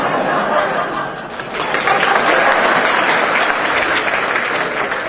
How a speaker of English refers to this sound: We have Arizona Secretary of State Ken Bennett is here. Or, if you'd rather not hold your applause,